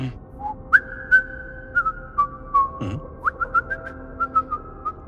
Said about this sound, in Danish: Hør, fløjten kom. Den kommer lidt mere. Nu begynder du også at opdage, der er en melodi.